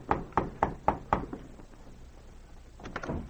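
Five quick, evenly spaced knocks on the wooden door of a room at the Victoria Hotel, made by two Mounties, sharp and fairly loud, followed by a pause and then a brief, softer shuffling sound. No one speaks.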